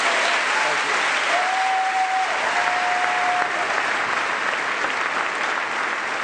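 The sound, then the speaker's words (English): A large crowd in Boston's Faneuil Hall rises to its feet and applauds and cheers steadily for John F. Kerry's presidential campaign after he congratulated President Bush; thick continuous clapping with a long, sustained whistle cutting through the middle of the ovation. “The crowd in Boston's Faneuil Hall rising to its feet to give one last cheer for the presidential campaign of John F.”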